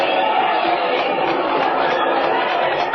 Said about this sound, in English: Look at all those people. Listen to them cheer.